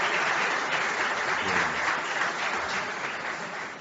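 An audience applauds steadily, a dense wash of many hands clapping at a fairly even level that eases off slightly toward the end. No one speaks over it.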